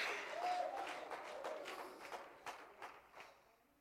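An audience claps hands in a dense, lively burst with faint shouts of praise to God mixed in, then the clapping thins to scattered individual claps as it fades.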